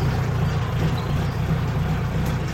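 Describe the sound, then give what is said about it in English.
A tractor engine drones steadily, a loud, continuous low rumble with a throbbing beat, running without a break for the whole stretch and with no voices over it, as the tractor hauls a trailer loaded with flower stems to a dumping site. “The workers load the stems onto the trailer, and the tractor takes them to the dumping site.”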